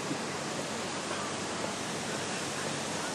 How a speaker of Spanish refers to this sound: Y las fuentes de Plaza Cataluña.